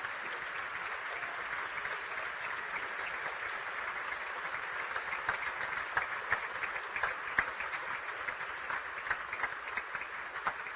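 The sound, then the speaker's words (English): A large crowd of fans from both sides applauds injured player Luke Patton as he is lifted onto a cart at a game against Pine Richland, a steady, sustained round of dense clapping that swells slightly toward the end, with no voices heard over it. “And in the final second, Luke Patton suffering an injury as Patton now will be lifted onto the cart, met with a round of applause by the fans on both sides.”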